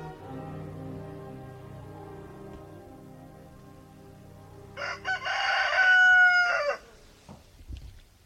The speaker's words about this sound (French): Le matin, il est réveillé par le coq.